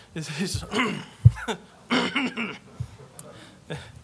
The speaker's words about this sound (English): And the guy next to him keeps clearing his throat. They're like, does he have a cold?